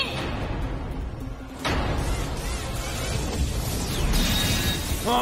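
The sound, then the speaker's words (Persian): A loud, rumbling explosion sequence with no voices: a dense roar throughout, punctuated by a sharp blast just before the midpoint that pushes the noise even louder, continuing with a crackling, sustained rumble. “یه انفجار دیگه.”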